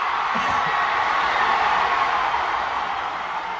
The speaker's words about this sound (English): thankfully there is this fan or a bunch of fans using an American flag as like a receiving fireman type blanket. And the sound, Liz, the eruption of applause when everybody realizes the cat is alive.